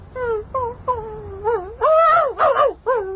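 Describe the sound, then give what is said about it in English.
A dog on a chain whines in a string of about seven high, wavering cries, each bending up and down in pitch, growing louder and more strained toward the middle, with no talking. “Poor dog.”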